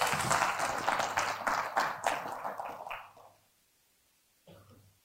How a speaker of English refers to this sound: Thank you guys, by the way. Round of applause for the volunteers.